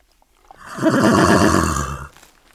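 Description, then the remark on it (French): A horse neighs once, loud, a wavering whinny lasting about a second and a half that swells and then fades, with near silence before and after. “Voilà que la pitié me confie de vrais chevaux, avec des dents et tout.”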